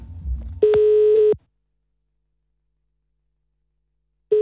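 A short burst of phone dialing noise, then a steady ringback tone that sounds for under a second, stops for a long silent pause, and begins again at the end.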